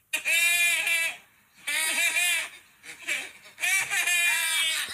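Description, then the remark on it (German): Two goats bleating in loud, strained, almost human-sounding cries, three long wavering calls with short pauses between them, clear. “Es sind zwei Ziegen, die so komische Geräusche von sich geben und sich freuen.”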